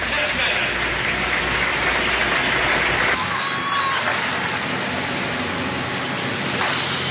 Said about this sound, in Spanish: Viva Colombia en paz, es lo que dice Ban Ki-moon, secretario general de la Organización de Naciones Unidas, y por supuesto que estallan aplausos el auditorio, las más de 2.500 personas que han sido convocadas al patio de banderas